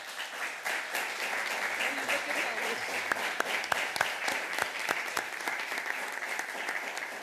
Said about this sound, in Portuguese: E como projeto mais votado, e dando também os parabéns aos senhores e senhores deputados do Círculo Eleitoral de Viana do Castelo, que tiveram 18 votos, pedi a todos uma salva de palmas.